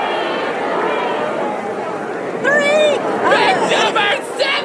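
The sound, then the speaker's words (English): A crowd of audience members shouting out their picks among three numbered women, a dense babble of raised voices with a few louder individual calls, such as numbers 7 and 3, cutting through near the end. “I heard somebody yell 3.”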